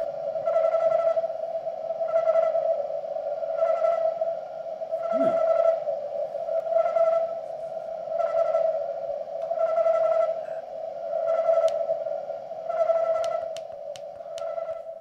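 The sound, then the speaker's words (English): Crickets chirping slowed down: a sustained, humming mid-pitched tone that swells in regular pulses roughly every second and a half, with a few faint high ticks near the end and no talking. “The sound of crickets slowed down.”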